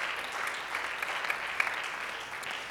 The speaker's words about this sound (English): Let's clap our hands if you believe that this morning. Hallelujah.